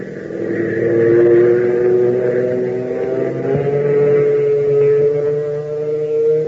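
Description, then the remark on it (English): A loud, steady airplane engine roar drones throughout, its low humming pitch wavering and rising slightly as it goes, with no voices over it. “Doesn't the roar of that plane give you a thrill?”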